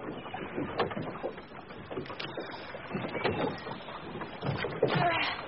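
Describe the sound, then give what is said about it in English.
Oars dip and splash as a small wooden skiff is rowed under strong sun, with water sloshing steadily and repeated stroke sounds over several seconds. “I row a while, but the sun gets too much.”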